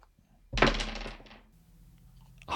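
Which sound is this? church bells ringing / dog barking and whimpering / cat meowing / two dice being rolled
two dice being rolled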